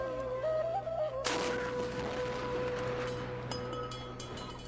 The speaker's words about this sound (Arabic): يلا يا عيال بنسير جدل مدفع وشلوا تمركم ومايكم عسب تفطرون من يذن. ابويا اخاف من صوت المدفع، عادي اسد دنيا؟